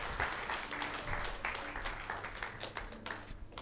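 An audience claps together in a steady, dense burst of applause that holds at an even level for a few seconds before thinning slightly at the end.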